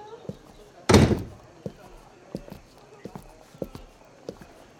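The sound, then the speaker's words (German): A door is shut with one loud slam near the start, followed by a series of light, evenly spaced knocks and taps that continue quietly afterward. “Ich mach die Tür zu.”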